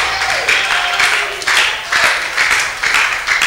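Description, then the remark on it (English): An audience applauds with a dense, steady patter of many hands clapping, swelling in soft pulses every half second or so, with no voices over it. “I thought I would have had more applause there.”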